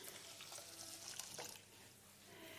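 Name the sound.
boiling water being poured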